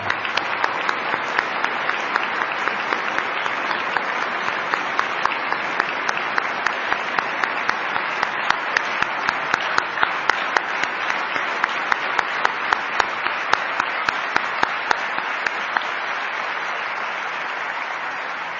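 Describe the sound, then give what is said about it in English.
Sustained audience applause fills the whole stretch, a dense wash of many hands clapping at steady strength, with sharper individual claps poking through the roar and no talking over it. “How about that? Another round of applause.”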